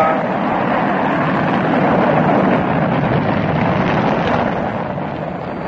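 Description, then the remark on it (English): Rocket engines of a crewed moon rocket carrying three men roar at liftoff, a loud, dense, steady rumbling blast that fills the whole clip, swelling slightly in the middle and easing a little toward the end, with no voices. “All engines fire.”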